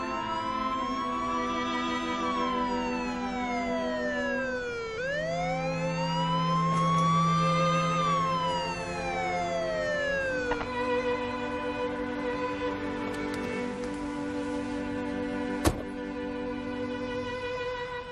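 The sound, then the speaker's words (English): An ambulance siren wails continuously, its pitch sweeping slowly up and down in long cycles, loud over a low engine rumble, with a single sharp click near the end and no voices. “Go, call the emergency. Tell them to send an ambulance.”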